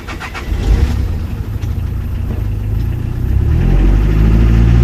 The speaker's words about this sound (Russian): Но, услышав о возможности потаксовать, крышка капота захлапывается и мотор заводится с полоборота.